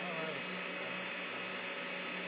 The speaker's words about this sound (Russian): Очень громко, у тебя очень сильно шумит на фоне вентилятора или что-то подобное.